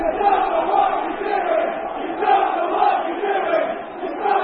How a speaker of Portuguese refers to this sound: You don't know what you are doing. Não sabes o que estás a fazer. Não sabes o que estás a fazer. Era o grito dos adeptos do Chelsea.